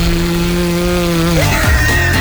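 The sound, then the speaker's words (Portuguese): A voice imitates distorted, buzzing car-stereo bass with a steady, raspy low drone for over a second, then bends and drops in pitch before sputtering out. Fairly loud, with no other sounds. “Quando o grave faz...”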